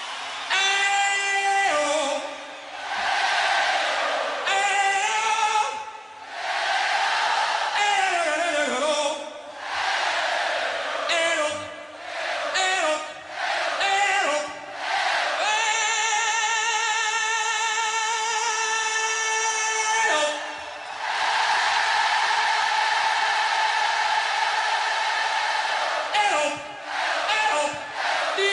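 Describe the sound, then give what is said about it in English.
A stadium crowd of about 100,000 people sings along in loud unison, their massed voices rising and falling in long sustained notes and short chanted phrases, with a roaring swell that barely lets up. “One voice, 100,000 people. You're telling me everybody in that crowd could sing?”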